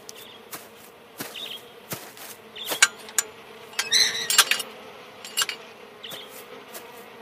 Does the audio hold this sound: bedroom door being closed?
no